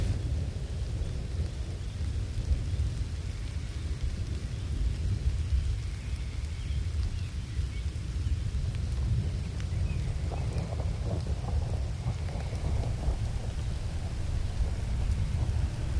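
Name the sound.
heavy rain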